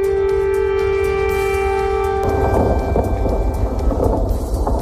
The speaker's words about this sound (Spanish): Sonido de esta misma madrugada en la capital, en Kiev, sonido de sirenas y de explosiones que ha escuchado nuestro enviado especial, Miquel Ayestarán.